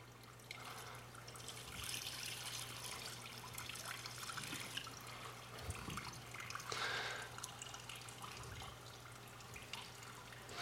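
Water pours and trickles steadily onto sand, a continuous splashing wash with a low hum underneath and no voices.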